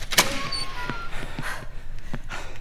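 Doors open with a sharp latch click followed by a few scattered mechanical clunks and rattles over a low steady rumble, with no voices.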